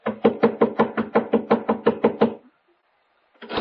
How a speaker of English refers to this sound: Within the hour, I was pounding on the front door of the Cartwright home over in Lakewood.